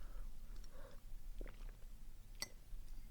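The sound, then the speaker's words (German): Quiet gulping and swallowing as someone takes three sips of water, with soft wet mouth clicks and one sharper click near the end, and no talking. “Ich nehme mal kurz einen Schluck Wasser, Moment.”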